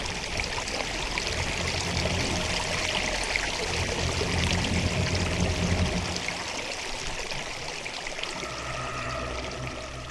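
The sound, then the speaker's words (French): Clear, pure water wells up and gushes to the rim of a well at Fleckenstein castle in a steady, continuous rush, fairly loud, with a deep thunder-like rumble from deep in the earth underneath that drops away partway through. No voices. “Un bruit de tonnerre retentit des entrailles de la terre et une eau claire et pure remonta jusqu'au bord du puits.”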